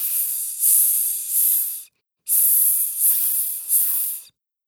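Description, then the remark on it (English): A voice imitates a snake's hiss: two loud hissing runs, each swelling three times in a sss-sss-sss pattern, separated by a brief pause, with no other sounds. “It's a snake!”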